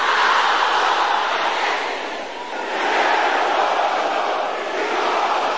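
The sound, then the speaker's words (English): A large group of men in a church audience roar together during prayer in a loud, sustained collective shout, dipping briefly in the middle before surging back at full strength, with no distinct individual voice standing out. “Let me hear the brothers roaring like fire.”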